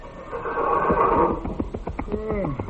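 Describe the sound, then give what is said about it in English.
A horse whinnies loudly, a strained, wavering cry that breaks into shorter rising and falling calls near the end, with no talking. “My goodness, did them horses talk.”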